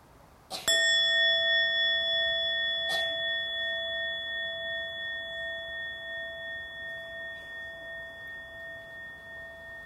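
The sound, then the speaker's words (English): A meditation bell is struck by a bell master during breathing meditation, then struck again a couple of seconds later, its clear, pure tone ringing on and slowly fading with a gentle wavering shimmer. No voices. “And if you are a bell master, after having enjoyed three times breathing in and out, you invite the bell to sound for a second time.”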